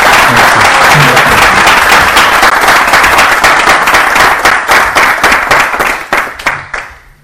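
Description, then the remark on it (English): Loud audience applause for a group after their glorification of the Supreme Lord, Krishna: a dense wash of many hands clapping at once that thins into scattered individual claps before fading out near the end. “So let's give them a bigger round of applause.”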